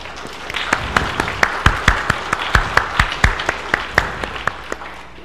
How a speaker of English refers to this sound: We rejoice with you in the life of baptism. Together we will give thanks and praise to God and proclaim good news to all the world. You may respond with applause.